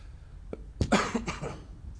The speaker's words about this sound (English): I'm not coughing for effect, honest.